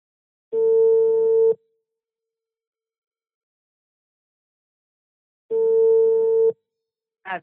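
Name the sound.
telephone call ringing tone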